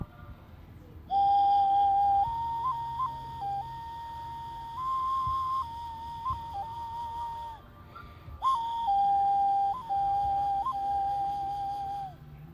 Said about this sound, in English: Yeah, this one's called a nguru, and you play it with your nose.